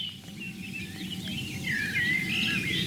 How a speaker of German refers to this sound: Schöner Vogelgesang um die Rehohren rum den ganzen Tag. Super, super Platz.